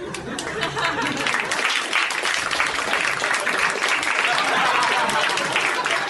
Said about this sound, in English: He applauded himself.